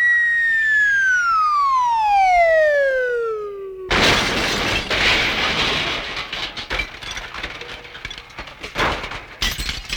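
A loud whistling tone slides steadily downward for about four seconds as a 1973 car using lead-free Powerhouse gasoline is pushed over the edge of a building, then cuts into a sudden heavy crash of the car hitting the ground, followed by several seconds of clattering, scattering debris.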